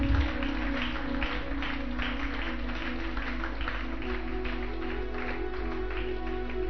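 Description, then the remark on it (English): A crowd claps for Jesus together in a steady, dense wash of applause that holds at an even level throughout, with a low sustained hum running underneath. “Clap for Jesus.”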